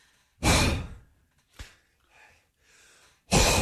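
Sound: imitated heavy panting breaths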